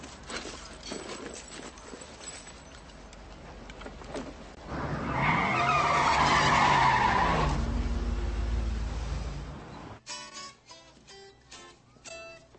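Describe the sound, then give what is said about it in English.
A car approaches with a loud, drawn-out tire skid that swells in the middle, preceded by rumbling and clattering noises, then cuts abruptly to quieter, choppy sounds. “Check this funky car coming in.”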